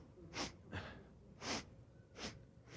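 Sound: voice imitating repeated sniffing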